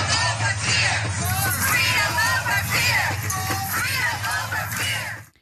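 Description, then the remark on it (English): A large crowd of thousands walking by in the street fills the air with dense, continuous voices, overlapping shouts and whoops rising above a steady low rumble, loud throughout before cutting off abruptly. “There were thousands, folks. This was just filmed as part of the crowd was walking by, okay?”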